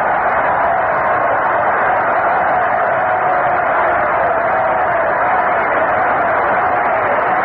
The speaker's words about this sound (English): Rusty Staub gets a standing ovation from this near capacity crowd for his two home runs his first two times up.